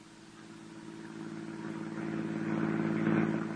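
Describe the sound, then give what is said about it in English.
A car engine hums steadily as the vehicle drives out into the country, its low drone swelling gradually louder over a few seconds, with no voices present. “To my car, then. I'll tell you the story as we drive to our destination.”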